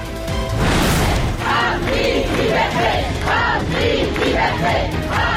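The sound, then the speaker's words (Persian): A large crowd of students chants in unison at a gathering at the University of Tehran, Iran, voices rising and falling in a steady rhythmic pattern, loud and continuous throughout, with a brief burst of noise near the start. “تجمع دانشجویان دانشگاه تهران و بازداشت چندین دانشجو و دانش آموز.”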